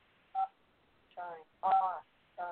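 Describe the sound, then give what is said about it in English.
A telephone's test beeps, set off after a power outage: four short electronic tones with uneven gaps, each a buzzy mid-pitched burst, the third one longest. No one speaks. “If it doesn't, I'll be listening to some beeps for a while because I don't know how else to get it to stop.”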